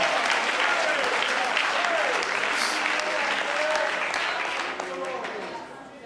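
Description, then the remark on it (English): A crowd claps steadily for several seconds as thanks to the Lord for calling them, a dense, continuous patter of many hands, with faint voices calling out beneath it before the applause begins to taper off at the end. “Oh, would you clap your hands as if to say, thank you, Lord, for calling me.”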